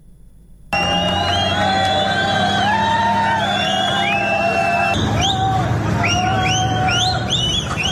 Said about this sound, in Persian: صدای فریاد و سوت زدن یک گروه بزرگ از مهاجران مراکشی که روز شنبه در شهر خودمختار سئوتا در اسپانیا تحت اسکورت نیروهای پلیس به سمت گذرگاه مرزی با مراکش در حال انتقال بودند.